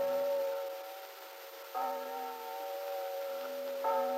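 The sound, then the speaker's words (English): Church bells ring at the end of a church service on a peaceful, quiet Sunday morning in Wakefield, tolling slowly, a new stroke roughly every two seconds, each ringing tone hanging and fading before the next. The peals sound soft and somewhat distant, with no voices. “The bells dismissing church were just dying in the distance on a peaceful, quiet Sunday morning in Wakefield.”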